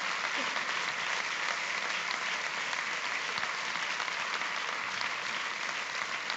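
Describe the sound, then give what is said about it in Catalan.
Sustained audience applause at an awards ceremony, a dense steady wash of many hands clapping at an even, fairly loud level throughout, with no voices rising above it, for a club honoured after its promotion to Spain's Segunda División A football league. “Un aplaudiment, una passeta cap endavant.”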